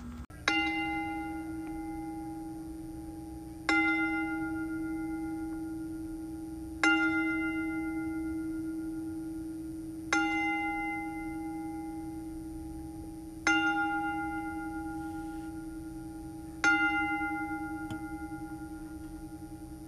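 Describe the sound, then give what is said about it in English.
A single bell tolls slowly and steadily, six strikes roughly every three seconds, each ringing out with a long shimmering decay before the next. No voices, just the bell over a faint low hum. “And if you could, just join us in this toll of the bell”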